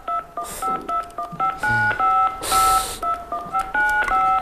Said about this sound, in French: Alors, tape tout d'abord les 16 chiffres de ta carte de crédit sur ton clavier.